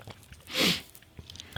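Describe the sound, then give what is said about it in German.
A single brief slurping sip of a fizzy cola-and-orange soft drink, a soft hissing swell lasting under half a second amid quiet small clicks, with no one talking. “Bin schon am Trinken.”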